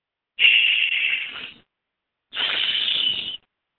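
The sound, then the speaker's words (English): A voice imitates a sizzling fireplace fire with two drawn-out breathy hisses, an 'sh' and an 's', each about a second long with a short pause between them, fairly loud. “If you've ever watched a fireplace, the sounds that come out of that fire have those two sounds.”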